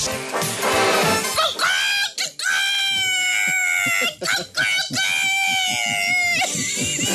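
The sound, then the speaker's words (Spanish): A person's voice imitates a rooster crowing, a series of long, strained, high-pitched cries with wavering harmonics, broken by short gaps and a brief breathy burst at the start. “Dime si tú sabes cómo hace el gallo.”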